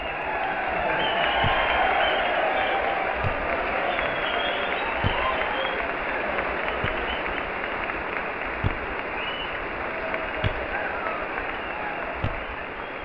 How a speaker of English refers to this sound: He looks excellent, and now he's turning around towards the microphone while the crowd applauds.